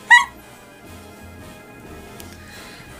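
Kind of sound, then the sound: animal, dog barking and whimpering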